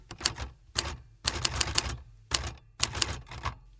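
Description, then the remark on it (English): Rapid mechanical typewriter keystrokes clatter in uneven bursts with brief pauses between, crisp, with no voices present. “Today's sound is a typewriter.”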